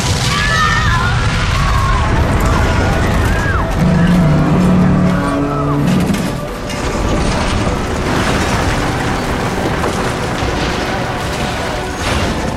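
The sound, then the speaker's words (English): A loud, sustained barrage of booming explosions and crashing debris, with a deep rumbling surge a few seconds in and chaotic clattering noise continuing throughout, as Torchwood takes down a cybernetic warrior that crashes in Wapping. “Torchwood were taking down a cybernetic warrior. It crashed in Wapping.”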